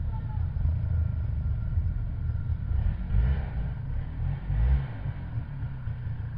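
A steady, low engine rumble from motorboats and vehicles in Tête-à-la-Baleine, where motorboats travel between the islands facing the village, drones throughout, with a few swells in intensity as motors rev slightly, forming a continuous mechanical background.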